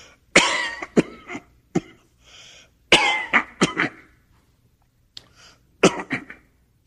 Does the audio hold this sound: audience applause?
no